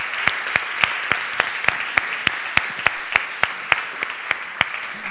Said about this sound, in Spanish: Bueno, yo os doy un aplauso a todos. Un aplauso a todos los creadores.